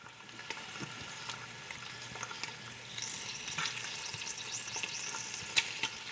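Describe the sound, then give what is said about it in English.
Small pieces of hog fat render into lard in a large aluminum pot over low heat, sizzling steadily with a dense, bright hiss, scattered with small sharp pops and crackles that grow busier partway through. A low hum sits underneath, and no one speaks. “As the fat cooks, it hisses and pops, releasing a golden liquid.”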